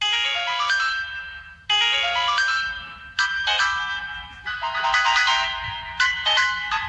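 A phone ringtone plays a bright, busy electronic melody, with rapid chiming notes in repeating phrases that restart every second or two, steady and fairly loud with no voices.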